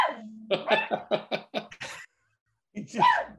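A small dog barks at another dog outside the window in a rapid, yappy run of about half a dozen sharp barks, pauses briefly, then lets out another louder bark, with no talking over it.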